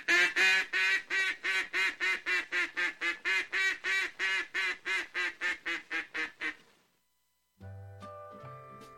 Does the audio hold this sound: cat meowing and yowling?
no